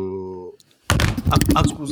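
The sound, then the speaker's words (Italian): A steady humming tone cuts off, then after a brief pause a mobile phone, dropped while its owner was replying to their mother, hits a hard surface with a loud thud, followed by a second of rattling, scraping clatter. “Stavo rispondendo a mia madre e mi è caduto il telefono.”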